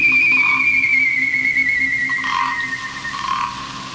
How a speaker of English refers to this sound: The cry of the Ouija bird.